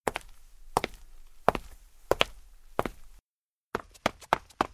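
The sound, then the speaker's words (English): Sharp, woody chopping thuds of construction work land at a steady pace, about one every second, then after a brief silence a quicker run of hits follows. Fairly loud, with no voices. “A sailing ship. Construction. Footsteps.”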